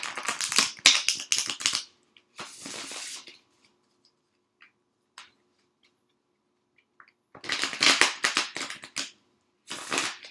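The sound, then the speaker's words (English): A deck of cards being reshuffled live, loudly, in four bursts of rapid, crisp riffling, with a long quiet pause in the middle and no talking. “You know it wouldn't be a podcast without a super loud shuffle, right?”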